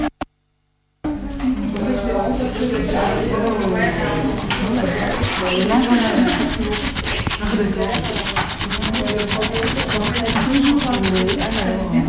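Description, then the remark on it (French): A small piece of sandpaper scrubs a rubber inner tube around a hole, so that a patch can be glued on, in quick, repeated raspy strokes, a steady scratchy rhythm that grows busier toward the end, while voices talk over it. “Je suis en train de poncer avec un petit papier de verre la chambre à air autour du trou pour pouvoir coller la rustine.”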